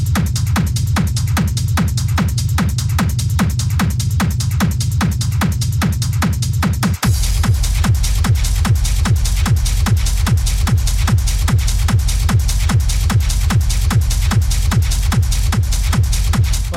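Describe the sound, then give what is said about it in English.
Heavy feet stomp in a fast, steady rhythm, loud, thumping on without pause for the whole stretch, with a brief jolt partway through before the beat carries on. “Give us a stomp on us.”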